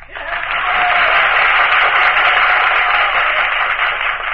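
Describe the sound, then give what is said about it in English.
Sustained, loud applause fills the assembly chamber, a dense crackle of many hands clapping together that swells quickly and holds steady throughout, with no voices rising above it. The West applauds vigorously while the East remains silent. “Again, the assembly chamber is filled with applause.”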